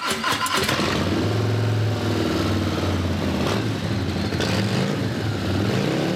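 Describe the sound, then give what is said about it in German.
A Harley-Davidson Fat Bob motorcycle engine roars to life with a sharp burst, then settles into a loud, deep, throbbing rumble, swelling in brief revs along the way. No one speaks. “Ihr ganzer Stolz ist eine Harley-Davidson Fat Bob.”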